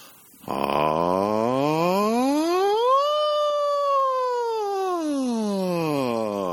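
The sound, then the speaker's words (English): A single sustained voice performs a siren vocal exercise, gliding smoothly upward from a low pitch to a high one, holding briefly at the top, then sliding back down in one unbroken, steady tone. “The siren exercise lets you go from the bottom to the top and back without any cracking or breaking.”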